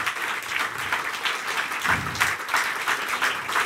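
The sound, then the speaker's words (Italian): Steady audience applause after a stage show, a dense crackle of many hands clapping at an even, sustained loudness for several seconds, with no voices over it. “Grazie, facciamo un altro applauso, veramente uno spettacolo.”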